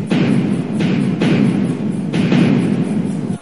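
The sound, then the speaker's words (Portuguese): Heavy booming blasts roll out one after another in an irregular volley, each deep thud blending into a continuous rumbling roar as all the warships of a fleet fire their cannons in front of Praça do Paço, between Rio de Janeiro and Niterói. “Todos os navios de guerra dispararam seus canhões.”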